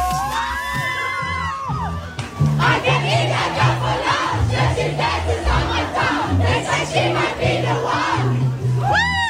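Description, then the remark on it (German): A big, loud crowd of fans after a concert in Vienna cheers and chants together in a U-Bahn subway station, starting with high whoops and shrill shouts, then swelling into a steady, rhythmic group chorus. “Und nein, das Konzert war bei der U-Bahn noch lange nicht vorbei.”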